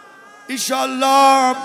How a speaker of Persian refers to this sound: نه گریه نکن ایشالله، فردا از این دشت میریم برات گهواره تازه میگیرم